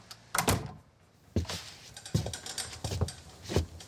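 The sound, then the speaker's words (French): A door is pushed shut, with a few scattered clacks and thumps from the handle and latch spread over several seconds. No one speaks. “Amène-moi dans la salle à manger, puis ferme la porte.”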